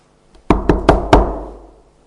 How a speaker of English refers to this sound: Well, I knocked.